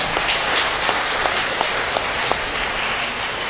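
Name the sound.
audience applauding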